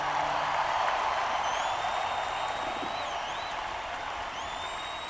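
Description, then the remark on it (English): A dense, steady wash of concert audience applause for the opening band fills the whole five seconds at an even level, with a few thin, high whistles gliding above the clapping. “So let's have a big round of applause.”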